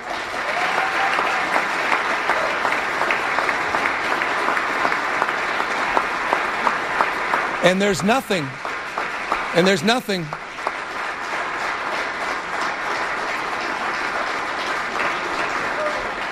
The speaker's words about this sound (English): That was a standing ovation and long, long applause.